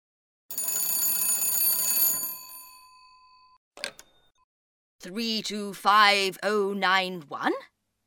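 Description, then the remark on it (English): A telephone bell rings once in a loud, rattling burst of about two seconds that fades away, followed by a brief click as the receiver is picked up, then a voice starts speaking. “Listen to the phone call.”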